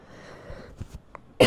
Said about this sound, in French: Désolée, j'arrête pas de tousser. Ouais, j'en peux plus.